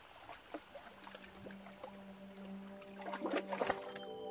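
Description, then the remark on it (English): River water flowing and trickling at the mouth of the Daly River, with a steady low hum underneath and a few brighter gurgles and splashes near the end. No one speaks. “Water flowing. Birds tweeting, frogs flying.”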